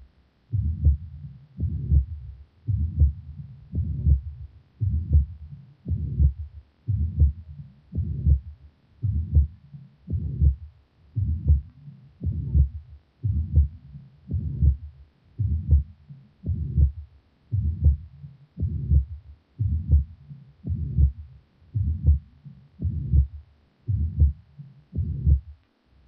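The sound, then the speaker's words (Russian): A heart heard through a stethoscope, beating steadily at a moderate pace, with a soft blowing systolic murmur of tricuspid insufficiency filling each beat. No one speaks. “Прослушайте систолический шум трикуспидальной недостаточности.”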